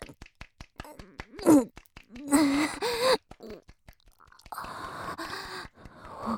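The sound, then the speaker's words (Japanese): Breath blown onto a microphone in several rough, rushing bursts, some short and some drawn out for a second or more, with faint voiced gasps mixed in. A steady ticking runs underneath throughout. “また息かけてる、息かけてる、息かけてる。”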